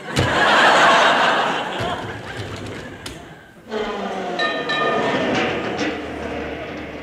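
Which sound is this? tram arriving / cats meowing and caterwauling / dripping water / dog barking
tram arriving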